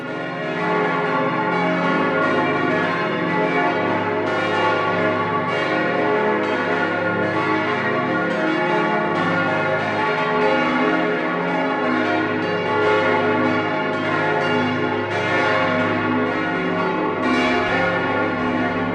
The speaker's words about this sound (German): Das Folgeläut, welches wir gerade hören, gehört zur Pfarrkirche St. Augustinus im Stadtbezirk Trudering-Riem der Landeshauptstadt München.